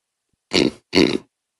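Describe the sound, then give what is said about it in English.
Two short, loud throaty bursts a moment apart, made on request into a microphone: a burp and then a voice imitating a pig's oink, with no talking around them. “can you do in succession a burp, pig oink, burp?”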